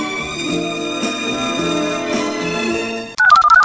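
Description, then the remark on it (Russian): A steady musical tone bed gives way at the end to a quick burst of short, stepping electronic beeps of the telephone number 101 being dialed, loud. “Вы набрали телефон 101 ради забавы?”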